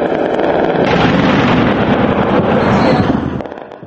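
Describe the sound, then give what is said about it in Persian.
Sustained, loud anti-aircraft gunfire at night in Tripoli, Libya, rumbles and crackles without pause, a dense wash of booming bursts and pops that fades slightly at the end. “شبانه صدای آتش بر ضد هواپیماها در ترابلوس به گوش می رسید، با وجود آن که نقطه آن معلوم نبود.”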